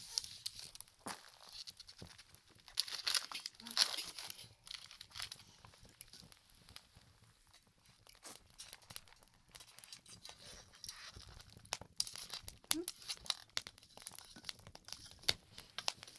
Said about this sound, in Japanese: この丸いアルミホイル、これを焚き火に突っ込みます。